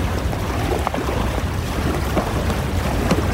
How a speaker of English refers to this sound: I think that's the tidal surge. Oh, shit. We're in deep water. It shouldn't break this far out. Just, here, unhook the kayaks and... It's coming. Keep your bow pointed straight at the wave. Don't get turned broadside.